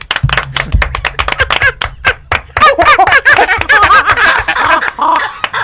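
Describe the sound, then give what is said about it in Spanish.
A burst of loud applause with sharp, rapid claps, joined after a couple of seconds by lively laughing and cheering voices that swell over the clapping until the end. “Tras los aplausos, salió el mono.”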